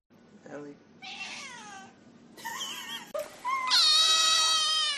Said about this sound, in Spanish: se nos ha llenado el estudio de gatos, de michis.